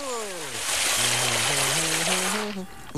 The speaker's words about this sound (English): Milk, eggs, and flour splash out of the bowl.